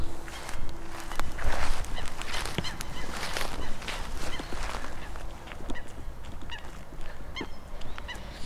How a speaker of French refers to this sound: Juste en face de moi, il y a le lac. On entend les canards. J'entends les canards.